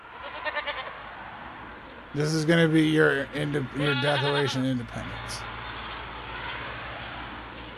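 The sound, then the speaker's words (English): A goat bleats loudly for a few seconds in a wavering, nasal series of cries, overlapping a person talking on a corded phone call, with steady hiss underneath and a thin, telephone-like quality throughout. “You keep talking about the goats.”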